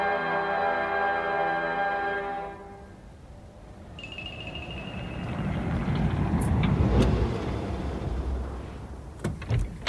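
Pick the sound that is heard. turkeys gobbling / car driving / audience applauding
car driving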